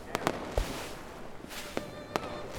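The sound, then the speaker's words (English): Fireworks crack and pop at irregular intervals, several sharp bursts over a few seconds, watched from the beach at Piffling Vale, against a low, steady background rumble. “And as we watched the fireworks”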